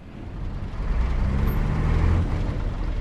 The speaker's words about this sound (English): All day and all night, trucks roll through the port city of Tema. They pick up cargo from thousands of shipping containers stacked high in the dockyards.